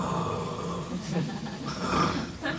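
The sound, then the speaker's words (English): A person loudly imitates snoring with a few rough, rasping snorts in quick succession, set against a faint background murmur. “I snored that loud, yeah?”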